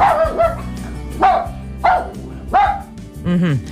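Klea, a five-year-old female husky and wolfdog mix dog, barks about five times, each bark a loud, pitched, slightly yowling burst, spaced unevenly with brief pauses between them and no one talking.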